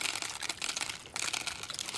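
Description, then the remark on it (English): Latkes (potato pancakes) sizzle during a Hanukkah meal with a steady, dense crackle of bright popping and hissing, loud and continuous across the whole two seconds, with no voices. “When we're eating, you can hear everyone chewing and the latke sizzling.”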